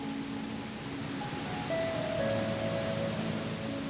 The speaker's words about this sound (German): Es sieht aus, als würde das Wasser schweben, statt zu fallen. Und gleich unterhalb des Großen folgen noch 5 kleinere Wasserfälle. Es ist wunderschön.